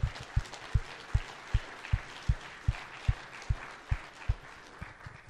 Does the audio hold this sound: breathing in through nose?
no